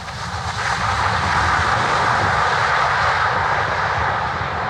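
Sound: airplane engine drone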